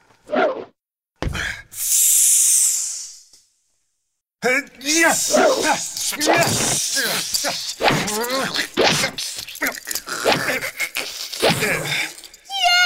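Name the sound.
snake hissing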